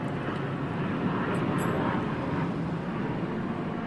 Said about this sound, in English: I don't hear people very much. It's the internal combustion engine. I don't hear people.